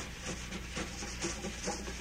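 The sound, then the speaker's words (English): Wire brushes held in the hand swish across a drumhead in a steady, chugging rhythm that mimics a train on the tracks. Moderately loud, with no voices. “Because if you want to make a train, you can make it.”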